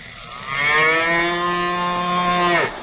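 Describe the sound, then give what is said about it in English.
A single long, loud cow moo, a drawn-out harmonic bellow lasting about two seconds that bends slightly and cuts off abruptly, with no talking. “You're going to put a cow in our backfield?”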